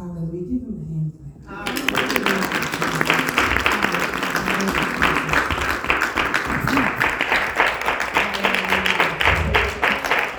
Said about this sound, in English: Give him a hand clap.